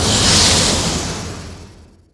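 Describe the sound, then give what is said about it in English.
A TIE fighter-style screaming flyby made from a snake's hiss layered over a car pass-by base layer: a loud, harsh hissing roar, brightest at the start, that fades steadily away over about two seconds, with no talking. “So here's a version of the TIE fighter sound that instead of the elephant, I played a snake sound.”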